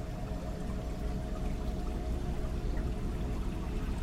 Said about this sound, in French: Ainsi, nous retrouvons notre environnement et la rivière se fait plus présente